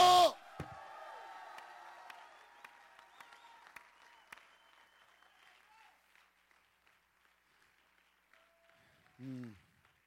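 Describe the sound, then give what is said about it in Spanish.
A crowd bursts into applause and cheering for the Lord, dense clapping mixed with sustained shouts, gradually thinning out over several seconds; a brief loud vocal cry rises near the end. “Dele aplauso al Señor quien vive en este lugar y dele voz de júbilo.”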